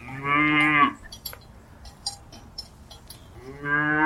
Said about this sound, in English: You guessed it, a cow!